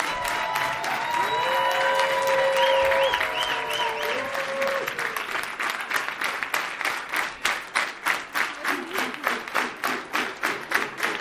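Sustained audience applause for a special guest, dense at first with some whistles and cheers mixed in, then thinning into a steady rhythmic clapping in unison toward the end.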